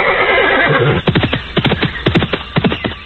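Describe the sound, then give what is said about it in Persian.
Two long-maned horses, one white and one brown, on a large green plain: a horse whinnies loudly at first, then a quick series of sharp, rhythmic hoof strikes follows as they stamp together, with more neighing sounds mixed in. “در دشت بزرگ بی سر و بی پا، سبز و با تراوت، دو اسب سفید و نسواری با یال‌های دراز و زیبا با یک دیگر آمیخته سم می کوبند و شیره می کشند.”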